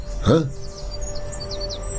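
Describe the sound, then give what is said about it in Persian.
A falcon, referred to as the Pakuta falcon, lets out one loud, harsh call near the start, followed by faint, scattered chirps of small birds in the background and a low steady rumble. “شاهین پاکوتا؟”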